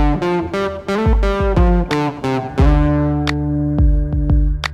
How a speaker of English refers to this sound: For example, here's a guitar line that's totally clean. Now, if I play that same part with distortion on it, it sounds louder, even though the average volume is exactly the same.